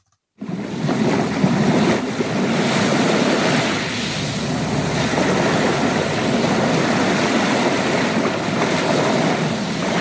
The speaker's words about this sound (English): The sounds of the ocean.